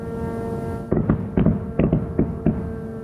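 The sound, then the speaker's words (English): A steady droning hum runs throughout as Ukrainian air defense units, shooting at Iranian-designed attack drones and ballistic missiles, open fire after a moment with about seven sharp, booming bursts in an uneven rhythm, fairly loud and echoing, with no voices. “And then the sound of Ukrainian air defense units trying to shoot down the drones as well as ballistic missiles.”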